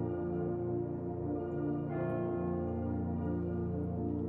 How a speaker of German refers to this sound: Irgendwo, ganz entfernt, schlägt eine Glocke.